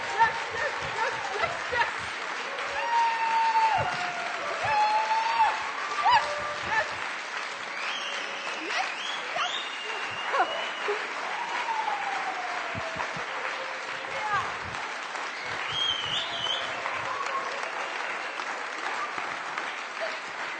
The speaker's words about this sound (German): Und jetzt Feuerwerk, Lichterbogen, Goldbuzzer. Und jetzt ihr, aufstehen, jubeln.